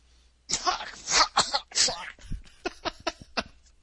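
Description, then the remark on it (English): A man clears his throat with several loud, harsh rasps, then trails off into a quick series of shorter, softer bursts. “He can't clear his throat without fucking swearing in the middle of it.”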